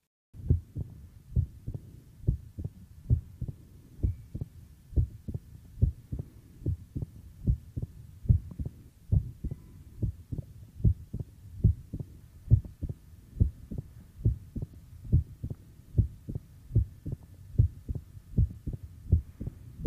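Heart sounds through a stethoscope at the apex of a patient with mitral stenosis, with a loud, snapping first heart sound, beating in a steady, even rhythm over a low hum for the whole stretch, with no talking.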